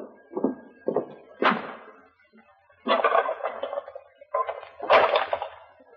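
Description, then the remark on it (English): An oil lamp being lit in a hotel room: a series of clattering handling noises, scrapes and a longer hissing rasp, coming in uneven bursts with no voices. “Wait a minute. I'll light the lamp.”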